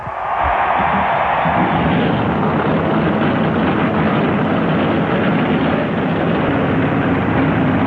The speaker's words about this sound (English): Gentlemen, start your engine.